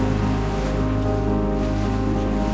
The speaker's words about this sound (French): On a 15 nœuds de vent, 30 km/h à peu près. Une petite houle et un très joli mélange de bleu et de vert qui s'étale devant la proue du bateau.